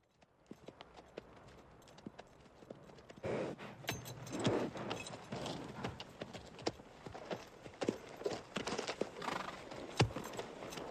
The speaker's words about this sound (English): They start moving again and steer their horses down a concealed bank.